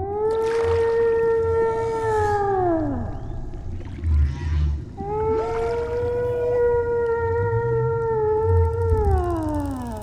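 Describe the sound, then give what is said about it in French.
Two long, loud whale calls, each a sustained tonal moan that holds steady then sweeps downward, separated by a short pause, with a low rumbling underwater background throughout. “Ah, on dirait que la baleine n'aime pas quand je parle.”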